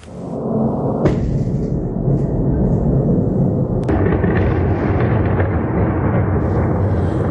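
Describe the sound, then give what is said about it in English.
A swarm of incoming Russian attack drones over Kyiv, Ukraine, at night produces a loud, steady low rumble that fills the whole recording, broken by two sharp, cracking bangs about three seconds apart. No voices are heard. “There was, sadly, a Russian drone swarm over Kyiv last night.”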